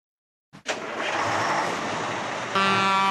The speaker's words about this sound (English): That chimpanzee's hitting the horn. Driving a truck.